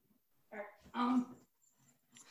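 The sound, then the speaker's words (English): A dog named Rocky whimpers twice, a short whine followed by a longer, louder one, then soft breathy snuffling sounds trail off. “I just don't want you barking.”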